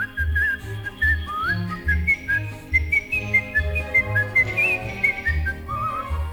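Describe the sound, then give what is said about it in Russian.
A soft, gliding whistled tune carries a song melody in a steady, lilting phrase, backed by a bouncing low bass line and light instrumental accompaniment. “Я эту песенку могу не только вам напеть, но если нужно просвистеть негромко.”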